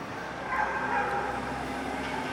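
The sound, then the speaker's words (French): A dog barks in a busy outdoor setting, its voice blending into a steady wash of background noise rather than standing out sharply. No one speaks. “Un chien qui grogne, qui aboie,”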